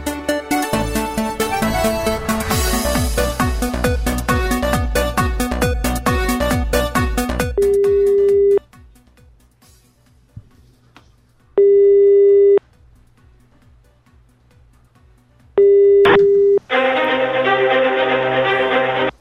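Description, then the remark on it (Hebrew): A dense, rapid clicking and tonal stretch as the number of the Bnei Brak municipality is dialed gives way to a telephone ringback tone: three steady one-second buzzing rings separated by silence, then a burst of noise as the line connects. “אוקיי, אז שמע, בוא נחייג לעיריית בני ברק”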